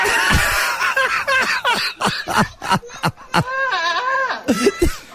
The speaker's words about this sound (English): It is a phenomenon when goats scream. They sound like humans. They sound like humans in awful amounts of pain.